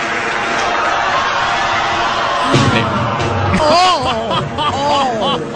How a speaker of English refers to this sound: Oh, loud crash. Oh, dang it. So literally the sounds of shocked crowd continued for almost a full minute.